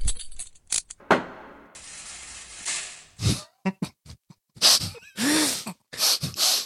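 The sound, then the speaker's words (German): A voice imitates handcuffs clicking and a prison gate slamming shut, as heard in cartoons when someone is arrested: a rattly hiss, then a quick run of sharp mouth clicks and snorting bursts ending in a heavy, breathy clang. “du weißt doch immer, wenn in Cartoons jemand verhaftet wird, dann sieht man immer Handschellen klicken, einmal kurz im Gerichtssaal, schuldig, und dann geht nur das Tor zu und du hörst diesen Sound.”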